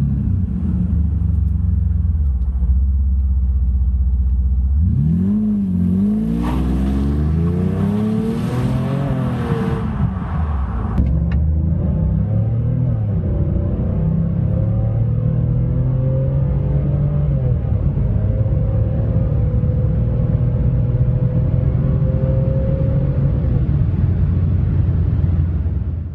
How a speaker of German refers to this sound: noch eine kurze Soundprobe von einem Mercedes W140 V12. Aber nicht von einem x-beliebigen 600er, sondern von einer der sehr seltenen 7 Liter AMG-Versionen. Ihr hört also 1 Liter Hubraum mehr und eine AMG-Auspuffanlage und 496 PS.